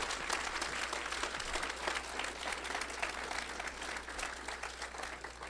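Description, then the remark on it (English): Sustained applause from a sizable crowd for two debate candidates at the end of a debate, a dense steady clatter of many hands clapping at once at an even level for several seconds with no speech. “Let's give both our candidates a big round of applause.”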